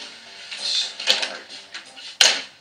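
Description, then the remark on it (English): Typing on keys, heard as a few soft clattering taps and two sharp, loud clacks about a second apart, with no one talking. “Start typing?”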